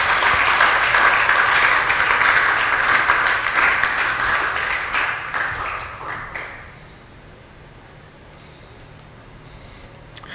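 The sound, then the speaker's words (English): A crowd claps and applauds loudly and steadily for several seconds, a dense patter of many hands, then the applause fades out, leaving a quiet room. “If you believe the word will work for you, clap, clap, clap, clap louder.”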